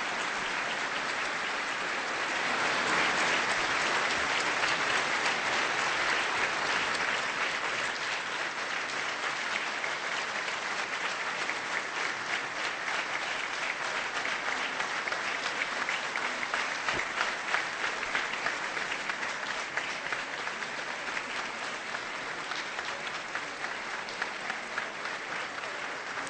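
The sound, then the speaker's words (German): Sustained audience applause after a speech by Pope Benedict, as the President and the Pope shake hands, a dense, even wash of many hands clapping at steady loudness, with no talking over it. “Der Applaus, wie Sie hören, war lang und herzlich.”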